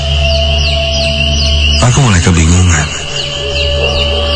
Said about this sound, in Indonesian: Sampai kali ini aku mendengar suara yang lain. Suaranya pelan. Ketika aku fokuskan mendengar, ini suara anak ayam. Suaranya terdengar cukup jauh. Iya, jelas ini suara anak ayam. Kok ada anak ayam di atas gunung ya?